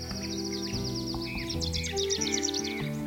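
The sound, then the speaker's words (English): A vermilion flycatcher calls in a quick series of thin, high chirps and trills, fairly clear, layered over a steady low musical backdrop with sustained tones. “But he remembers that first vermilion flycatcher as a turning point.”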